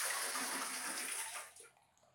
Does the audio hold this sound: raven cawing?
no